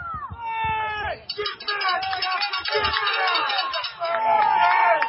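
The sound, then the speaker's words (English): A stadium crowd at a football game between Paradise and Shasta cheering in the third quarter, with many overlapping high yells and shouts forming a dense, loud roar that rises after the first second and carries on steadily to the end. “Well, you can see the crowd is getting into it.”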